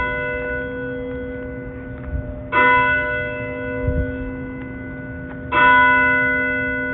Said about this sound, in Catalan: L'església del poble havia quedat en ruïnes després d'una gran tempesta, però la nit de Nadal, mentre acabava de sopar, va sentir unes campanades.